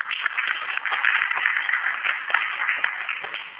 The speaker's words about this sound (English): If we can give him a little round of applause.